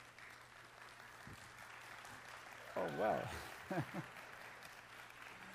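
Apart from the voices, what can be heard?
audience applause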